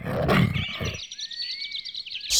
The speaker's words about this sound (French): Ah! C'est mon tigre. Il est gentil.